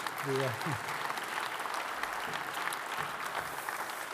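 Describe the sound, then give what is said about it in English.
An audience breaks into steady applause, a dense wash of many hands clapping at a fairly even level throughout, with a brief voiced murmur at the very start. “You can clap for that too, that's good.”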